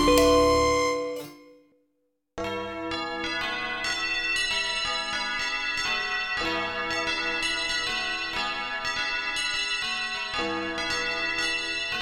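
Bells ring out loudly and continuously, their bright overlapping tones clanging in a steady pealing pattern after a brief fading chime and a moment of silence; no voices are heard.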